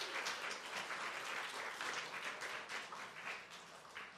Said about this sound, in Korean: 예, 격려의 박수 하겠습니다.